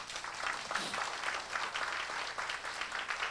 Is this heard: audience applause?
yes